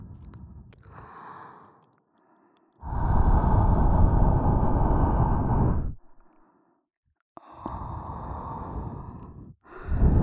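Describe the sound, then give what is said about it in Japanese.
Slow, heavy, hot and humid breathy exhales given as a lullaby, close up, warm and airy, a few long sighing breaths separated by short pauses, with no talking. “いっぱい罪を懺悔してお疲れの僕ちゃんがぐっすり眠れるように、湿度たっぷりの熱い吐息の子守歌をプレゼントでちゅ。”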